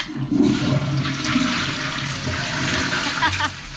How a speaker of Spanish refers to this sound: La, ¿cómo se llama? Cuando vas al baño. Una vez más. Cuando vas al baño cadena. Y tirás la cadena, bueno, eso, no me más salía. Tirar la cadena. El botón, el botón.